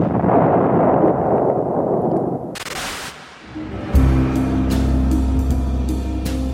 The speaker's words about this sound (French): À Port Fouad, le combat continue sur la rive opposée, sur la rive de Port Saïd. Nous sommes en vue des côtes égyptiennes et déjà au loin, nous entendons tonner les canons anglais.